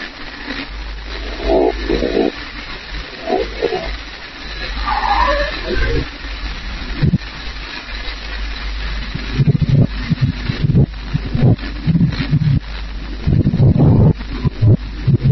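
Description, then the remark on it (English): A reversed recording of low, rough rumbling that rises and falls in irregular bursts like a dog or wolf growling, growing louder and denser in the second half, with no talking. “The best way I can describe it, it sounds like almost like a some kind of canine dog or wolf growling almost, and then, like I said, it's like, let me see if I can repeat the sound here.”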